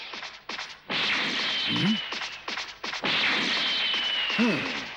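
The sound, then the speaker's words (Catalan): Rapid whooshing swishes and sharp impact thwacks repeat in quick bursts as Krilin bounces up and down the arena at the speed of light like a tennis ball, loud, with a sustained rushing sweep between hits. “A la velocitat de la llum, en Krilin travessa amunt i avall la pista, rebotant fugazment com si fos una pilota de tennis.”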